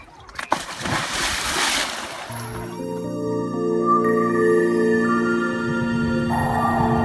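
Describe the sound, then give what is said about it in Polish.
A diver slides backward into the water with a rushing splash lasting about two seconds, then a steady layered droning tone takes over and continues to the end. “O tak, i nic nie rób, tylko po prostu ześlizgnij się do tyłu do wody.”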